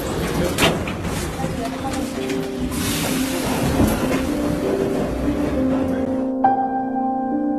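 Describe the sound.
A metro train rumbles steadily as its doors close, with a rising electric whine joining near the end as it pulls away toward the next station, Frunze. Faint voices murmur in the background.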